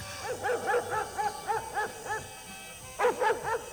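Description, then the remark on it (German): A dog barks in quick, repeated yaps as it runs into a cornfield, a rapid string of sharp barks, a short pause, then another burst of several barks. No one speaks. “Was ist denn mit deinem Hund los? Er rennt ins Maisfeld.”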